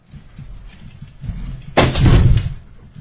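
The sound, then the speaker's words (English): A chair bangs loudly once during the open comment period of a public meeting: a sharp, heavy impact that rings out and fades over about a second, preceded by low scraping and shuffling noise. No one speaks. “Don't break the chairs.”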